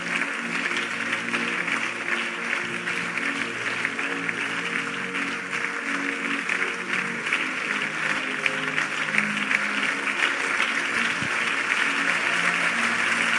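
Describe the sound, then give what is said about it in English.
An audience at a religious altar call claps steadily and densely for the whole stretch to encourage people coming forward to the front, a continuous wash of applause with no breaks, while low sustained musical tones hum beneath it. “If you clap, they will come faster.”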